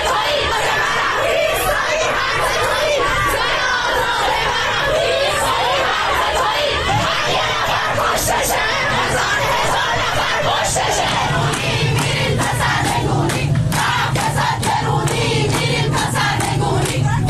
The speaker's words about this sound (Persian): تصاویر دریافتی از نجف آباد و بندر انزلی نشانگر برگزاری تجمعهای اعتراضی در این دو شهر علیه حکومت جمهوری اسلامی در روز یکشنبه 18 دی است. در نجف آباد معترضان شعار دادند.